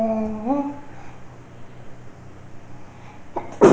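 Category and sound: human body sound, sneeze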